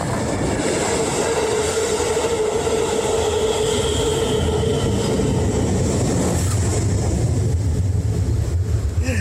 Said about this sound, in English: And this is the train I'm talking about.